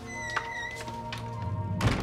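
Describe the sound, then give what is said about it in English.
A front door thuds shut with a heavy thump near the end, preceded by a few lighter knocks and clunks, all over a steady, sustained tonal drone with no talking. “She kisses him tenderly on the cheek, then heads for the front door.”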